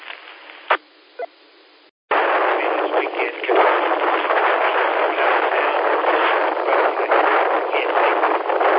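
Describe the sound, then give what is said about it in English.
Strong wind blows outdoors at a Walmart in Simpsonville, a loud, steady roar buffeting the microphone that cuts in abruptly after a quieter opening with a couple of sharp clicks, then continues unbroken. “So we're in Simpsonville at Walmart right here, and it's pretty windy out here.”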